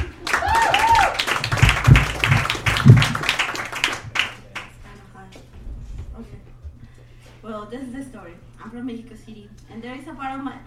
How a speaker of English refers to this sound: Let me get a round of applause